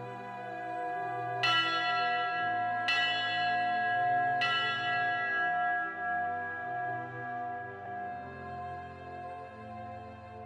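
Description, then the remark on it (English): A fire department bell is struck three times at a slow, even pace as a final return, the signal once rung when apparatus returned safely to quarters; each clang rings out and lingers in a long resonant decay, with no talking. “we'll ring the bell, that final return for the safe return of Dennis Rhodeman”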